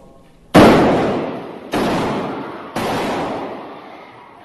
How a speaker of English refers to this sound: Two people dead, bang, bang, and then within a millisecond after that, the shooter is gone. The shooter is down because this man, Jack Wilson, was ready.